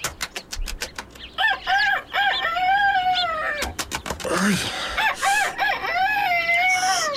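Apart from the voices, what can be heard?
rooster crowing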